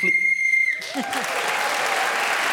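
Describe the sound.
A steady, shrill whistle blast, blown to end a round of a game, lasts just under a second over a voice, then gives way to a burst of loud applause from an audience that continues to the end.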